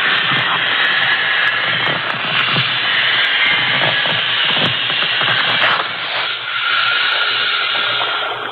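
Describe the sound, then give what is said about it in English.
Gas hisses loudly and steadily through an opened valve as a rubber raft inflates quickly near the water, a continuous rushing noise lasting throughout, with faint rubbing and creaking of rubber underneath and no voices. “Now turn on the valve. Yes, sir. Oh, it's getting up fast.”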